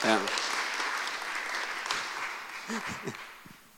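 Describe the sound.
A small group claps steadily for a few seconds, a dense patter that eases slightly toward the end, with brief voices calling out at the start and again near the finish.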